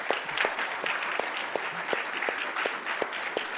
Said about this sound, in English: So if you are here today and you are currently or have ever served in our military, will you please stand where you are? All of our veterans, let's give them a round of applause.